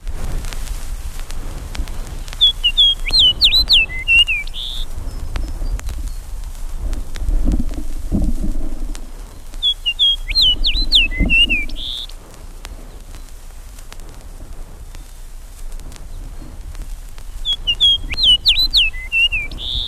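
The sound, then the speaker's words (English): A songbird of the northern spruce forest sings near Hudson Bay, delivering three short, high, whistled song phrases, each ending in a quick flourish, spaced several seconds apart over a soft low outdoor rumble. “prefers the northern spruce forest for nesting. Here a bird sings near Hudson Bay, and a second one in Canadian Labrador.”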